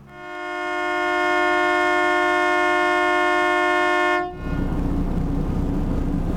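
A boat horn blasts in one long, steady, loud tone with rich harmonics for about four seconds, then cuts off, leaving broad rumbling engine and water noise.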